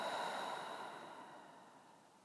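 slow deep breathing

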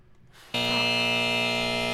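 quiz show buzzer

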